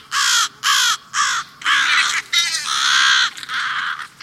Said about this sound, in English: Crows. Large, black, noisy. Some people love them. Others aren't so sure. Just listen to these crows. You might call it a crow caucus.